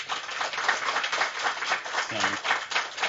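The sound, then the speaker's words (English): Audience applause as a vote for which item they think is the fiction: a dense, steady wash of many hands clapping at once, fairly loud and sustained without pauses, with a brief low voice murmuring underneath partway through. “So I'm going to ask you to clap, to applaud for the one that you think is the fiction.”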